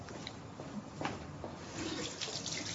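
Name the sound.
tap water running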